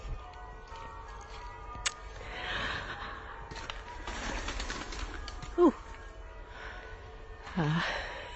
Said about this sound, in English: Birds, pigeons, in fact.